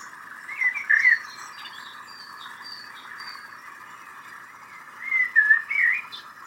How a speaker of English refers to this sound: You've enjoyed the sights, the sounds, and the smells of the forest. You've listened to the birds singing.